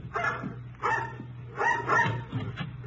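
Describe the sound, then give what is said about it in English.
A mongrel dog barks loudly several times in quick succession at the heels of people going up a rickety porch, with short gaps between the barks and a low steady hum in the background. “They stared at us while we went up the rickety porch, the dog barking at our heels.”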